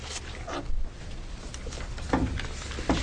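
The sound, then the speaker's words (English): Paperwork being shuffled at a public hearing, between closing the hearing on House Bill 2474 and opening the one on House Bill 2475: a series of dry, crisp rustles and soft thumps in irregular bursts over a low hum, with no one speaking. “And bear with me while I shuffle the paperwork here.”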